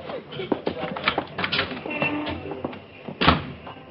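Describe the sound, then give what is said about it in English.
A door is opened and shut, with a series of wooden clunks, latch clicks and scuffing knocks, ending in a firmer thud near the end. “Out the door.”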